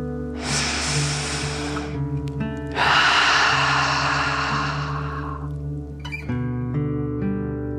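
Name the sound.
deep breath in nose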